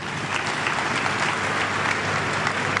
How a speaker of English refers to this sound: So clap for my brothers.